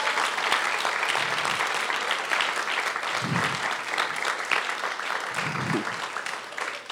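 A church audience claps steadily for the worship band for several seconds, a dense, even wash of many hands applauding at constant loudness, with a few low murmurs of voices underneath.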